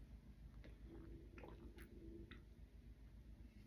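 Someone takes a quiet sip of water, with a few soft wet clicks and gulps scattered over a low, steady background rumble.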